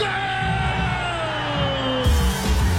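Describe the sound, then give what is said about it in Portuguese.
A dense, steady roar of a football stadium crowd waiting as a penalty kick is taken, with yells and whoops rising over a constant low rumble and a brief surge of louder shouting near the end as the ball is kicked. “Vai bater um pênalti, torcida na expectativa, ajeitou, chutou.”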